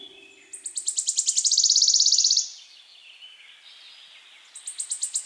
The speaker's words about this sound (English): That's right, a warbler is a bird. A small active insect eater commonly found in gardens, woodlands, and marshes.